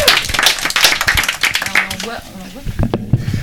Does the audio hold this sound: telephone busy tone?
no